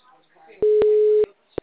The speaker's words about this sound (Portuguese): Tô tentando ligar. Então, deve ser alguma coisa do telefone, porque só chama, ninguém atende.